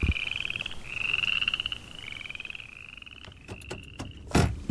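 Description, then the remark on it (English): A chorus of frogs trills in long, high-pitched pulsing runs over a soft night-time hiss, deep in the prairie after dark, with no highway or residential noise, a few sharper clicks and a louder burst near the end. No one speaks. “Cook and Blankenship are deep in the prairie. And from the sound, you can tell.”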